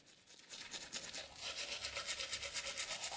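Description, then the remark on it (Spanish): Someone brushes their teeth with quick, steady back-and-forth strokes, a bristly, hissy scrubbing that repeats rhythmically for a few seconds with no one speaking. “Lavándose los dientes.”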